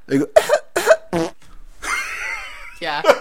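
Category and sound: human body sound, cough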